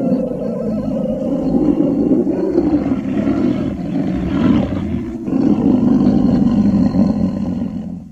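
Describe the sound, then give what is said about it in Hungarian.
A lion roars loudly and continuously, a deep rumbling bellow that swells and surges, with a brief dip midway before it roars again, powerful with no voices present. “Oroszlán! Ordíts túl a galambokat, parancsolom!”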